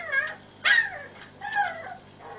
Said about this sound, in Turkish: Şimdi burada da bir sevimli, bakın. Anne anne diye ağlıyor. Köpekçik.